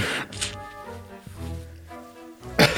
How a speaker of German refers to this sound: Was war denn jetzt los? Hast du die Nase geputzt? Ja. Ach so, das klang ja überhaupt nicht nach Naseputzen. Das klang, als hättest du den Popschutz abgeleckt.